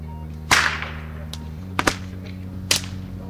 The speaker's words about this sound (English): After reluctantly letting me record his whip, Nando agreed to an interview.